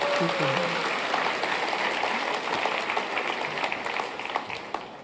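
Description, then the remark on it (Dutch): Warm applause from a crowd, a dense steady patter of many hands clapping at a constant loudness, with a brief voice heard underneath at the very start. “Mag ik een hartelijk applaus voor...”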